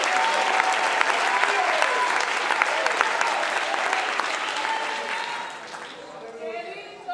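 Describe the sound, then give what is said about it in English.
Sustained applause from a large audience clapping their hands to show they believe, dense and steady, with a few voices calling out over it before the clapping thins and fades toward the end. “Oh, would you clap your hands if you believe it right now?”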